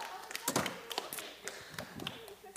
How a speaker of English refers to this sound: Yes. Give the vert chair a round of applause. Yes. Thank you, chair.